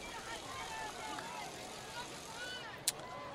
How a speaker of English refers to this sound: There's a loud noisemaker right below us, as you can probably hear on the crowd mic.